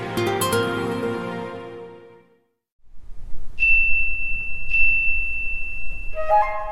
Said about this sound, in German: Mit dem hellen Klang des Glockenspiels und der Soloflöte beginnt die 15. Sinfonie von Dmitri Schostakowitsch.